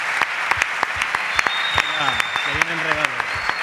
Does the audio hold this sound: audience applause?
yes